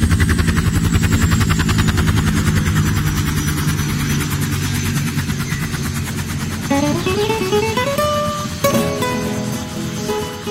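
A huge helicopter arriving at a school roars loud, its rotor blades thumping in a rapid steady rhythm over a deep engine drone; rising tones swell in toward the end.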